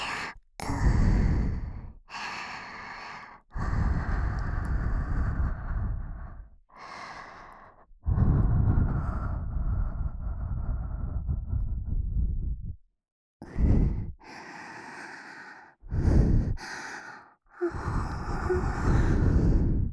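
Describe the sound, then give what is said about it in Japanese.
A series of long, soft, breathy exhalations of warm breath blown with the mouth opened wide, each a warm airy whoosh lasting a few seconds, separated by brief pauses and short intakes of breath, with no talking. “口を大きく開けて、あったかーい吐息当てちゃいますね。”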